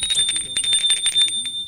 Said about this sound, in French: Et il sort. Il sonne à la porte de Sylvie.